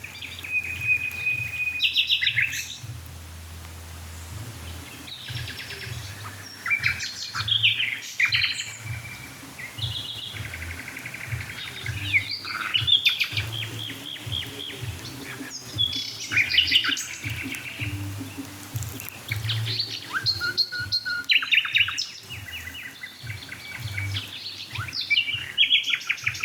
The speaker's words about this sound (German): Die da mit dem Düt, Düt, Düt, Düt. Das ist die Hausnachtigall.